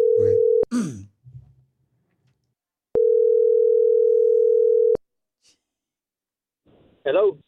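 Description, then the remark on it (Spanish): A phone line's ringback tone while a call is placed to a car seller at Genesis Automotive: a steady, mid-pitched electronic tone, cut short at first, then a full two-second ring, with brief voice sounds between and after. “Ok, márcale, por favor.”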